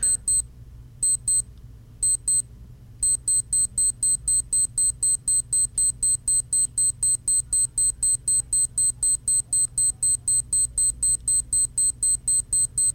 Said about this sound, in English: Alarm sound four. One finger double tap, bottom right-hand quadrant. Okay, and to me, that's your traditional digital alarm clock sound.